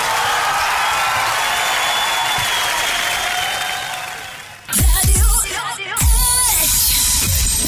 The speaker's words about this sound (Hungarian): Tapsot megérdemel, köszönjük szépen!